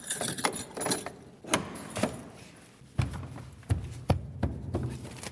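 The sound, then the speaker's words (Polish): A large old key rattles and clicks in the lock of the original cell door of a former prison, which will not open, a series of sharp metallic knocks and scrapes at irregular intervals, with no talking. “Od początku się zastanawiałam, do czego taki wielki klucz? Właśnie do takich drzwi.”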